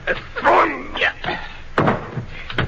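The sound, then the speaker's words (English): A door bangs and a heavy thud follows as a man is carried and thrown into another room, a few sharp impacts in quick succession with muffled voice-like sounds in between. “I open the door for you. Just throw him in.”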